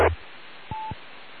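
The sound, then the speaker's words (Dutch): A short burst of noise, then a single steady electronic tone like a phone keypad beep lasting about a fifth of a second, over faint background hiss. No one speaks. “Ik ga dan nog even naar mijn telefoon in meld. Even proberen voor het bulletin.”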